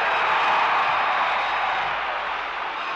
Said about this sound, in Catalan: Les ovaciones se suceden en el Parlamento del señor Montal. Gritos de Barça, Barça, Barça.